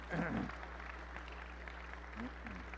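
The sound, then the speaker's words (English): An audience applauds to honor the women standing, in a steady, dense patter of clapping that stays fairly even throughout, with a few voices calling out over it at the start and again near the end. “Would you applaud these women who stand today?”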